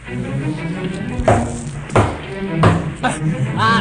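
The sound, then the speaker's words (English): Four heavy knocks land on a door at uneven intervals, each a sharp, resonant thud standing out over a low, murmuring background with faint voice-like sounds. “Whoever you are, you sure have a nice knocker.”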